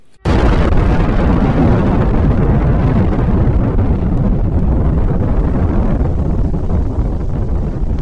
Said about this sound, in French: Le premier d'entre eux, l'explosion.